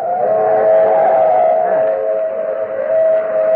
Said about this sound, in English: There's a train coming. It's an old steam train. I thought everything up here was diesel.